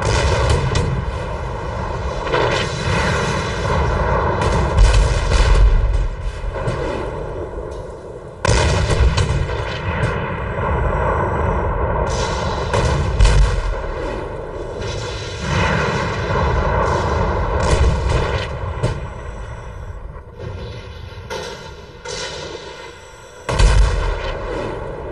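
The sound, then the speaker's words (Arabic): A heavy Israeli preparatory artillery barrage shelling Al-Awaida hill and the outskirts of Kfar Kila and Odaisseh: loud, repeated booming blasts land over a dense, continuous roar, with an aircraft-like drone running underneath and no voices. Reconnaissance drones, warplanes and helicopters are in the air during the shelling. “بدأ الإسرائيلي بنيران تمهيدية قاصفاً مرتفع العويضة وأطراف كفركلا والعديسي.”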